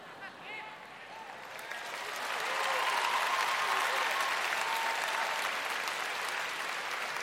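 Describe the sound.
An audience at a Catholic talk breaks into applause, a dense, steady wash of many hands clapping that swells after a couple of seconds and holds at full strength, with faint voices mixed in at the start.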